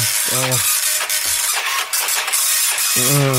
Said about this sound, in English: Right, I'll send it to the printer. Okay, send it to the printer. Quite a slow printer